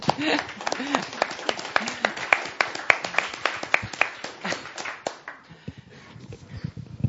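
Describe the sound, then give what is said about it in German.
A small audience claps together in a dense, steady patter of overlapping hand claps that thins out and fades toward the end, with a brief vocal murmur early on. “Vera ist zwar nicht da, aber wir können ja trotzdem klatschen.”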